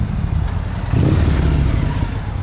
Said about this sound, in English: On a recent Tuesday evening, the parking lot of a pizza restaurant in Sunnyvale is filled with gleaming rows of parked motorcycles, with more arriving every few minutes.